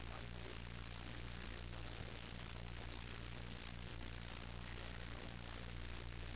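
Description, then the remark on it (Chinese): A propeller aircraft's engine drones steadily throughout, a dense, continuous roar with a low humming undertone and no voices. “有啲系螺旋桨飞机，有啲系喷气机。”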